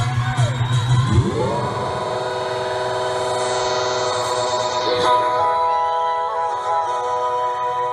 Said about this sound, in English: The crowd is so excited.